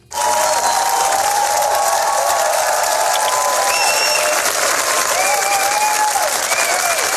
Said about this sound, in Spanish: Más de 10 minutos de ovación.